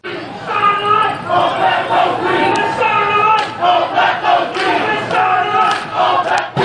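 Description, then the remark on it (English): A protest crowd chants and shouts together in front of the Public Service Commission in Washington, D.C., on the evening of September 25, demanding the government not approve a Pepco rate hike. Many voices loud and sustained, rising in rhythmic bursts that blend into a continuous roar. “Here's what things sounded like in front of the Public Service Commission on the evening of the 25th of September.”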